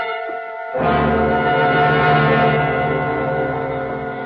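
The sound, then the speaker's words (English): A dense, steady drone of bees swarming from an overturned beehive on a penthouse apartment terrace just after rain hums without pause, rich and buzzing, swelling noticeably louder after the first moment and holding there with no voices present. “First I heard it. The humming of swarming bees.”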